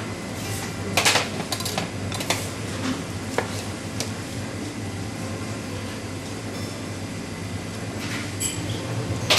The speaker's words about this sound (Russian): Дальше что мы делаем? Мы киви. Очищаем, наверное, где-то с половинку киви.